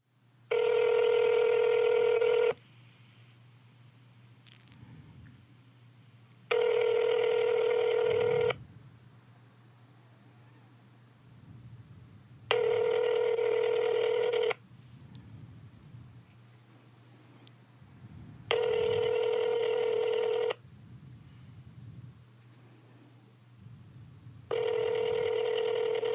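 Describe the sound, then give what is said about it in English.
An outgoing call's ringback tone on a call to the speaker's father sounds five times, each ring about two seconds long and separated by longer silent gaps, loud and steady over a faint low hum. “Hella rings, right?”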